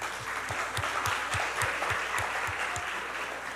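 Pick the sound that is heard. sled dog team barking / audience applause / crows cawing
audience applause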